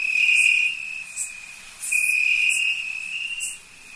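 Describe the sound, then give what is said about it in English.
A cricket chirps by rubbing its front wings together, a steady, shrill, high-pitched trill that runs almost unbroken, swelling slightly in a few spots. Clear, with no voices. “That's a great chirping sound.”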